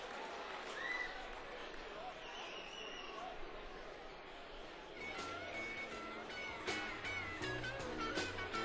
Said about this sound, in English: All right, that's it for the raffle. Everybody give a big round of applause